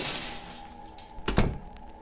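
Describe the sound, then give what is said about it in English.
A closet door thuds shut, one solid low thunk with a brief rattle, against a faint steady hum and soft hiss. “Jamie closes the gate and then the closet door.”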